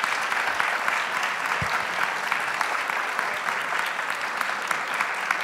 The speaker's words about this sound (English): I want to thank both of our speakers tonight. Please join me in applause now.